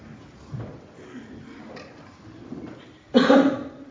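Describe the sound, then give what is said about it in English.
A single loud, harsh cough bursts out near the end, following several seconds of quiet, low rustling background noise. “I meant to mute that before I coughed, and then I muted it after I coughed.”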